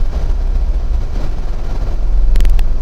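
A car engine laboring under load: a steady, heavy low rumble growing slightly louder toward the end, with a few brief clicks near the finish and no one speaking.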